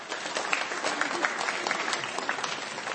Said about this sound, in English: Let's give Janet a very quiet round of applause.